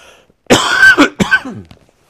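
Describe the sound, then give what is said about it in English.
Two loud coughs with a short gap between them, the first longer and rougher, the second shorter and trailing off into a throaty rasp. No one speaks. “I got one for coughing into and maybe blowing my nose.”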